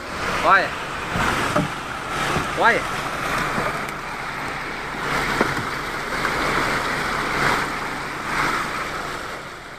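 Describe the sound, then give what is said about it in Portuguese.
During rains, a huge rock block breaks away from a canyon and plunges into Furnas Lake in Minas Gerais, Brazil, striking four motorboats, producing a sustained roaring rush of churning water and surf, while people on a nearby boat shout in alarm during the first few seconds. “Em meio às chuvas, um bloco rochoso se desprendeu de um cânion no lago de Furnas, atingiu 4 lanchas, deixou 10 mortos e mais de 30 feridos.”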